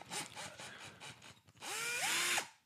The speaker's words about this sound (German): Nein. Ein Akkuschrauber, Akkubohrer. Ja, Mann. Ein Akkuschrauber.